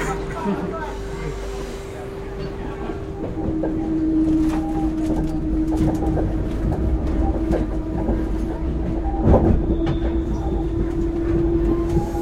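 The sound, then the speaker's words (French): A direct RER commuter train heading south from Paris rumbles steadily along rails near Arcueil-Cachan station, with a sustained low drone, a faint whine and scattered clattering and squeaks from the wheels. “Et donc là, on a de la chance, on a un direct.”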